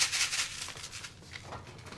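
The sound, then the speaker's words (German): Sand trickles and rustles inside a white plastic CD case, a steady hissing, grainy patter that starts strongest and gradually thins out over about two seconds, with no voices. “Das, was hier so rieselt, ist eine weiße CD-Hülle mit Sand gefüllt.”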